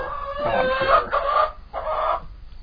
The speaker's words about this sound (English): Can everybody hear the chickens?